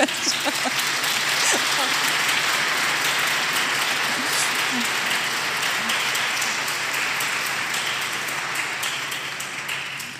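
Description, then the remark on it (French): A crowd at an evening prayer vigil applauds steadily, a dense, even wash of many hands clapping that holds strong for about ten seconds before easing off slightly at the end. “vous avez le droit, évidemment, d'applaudir.”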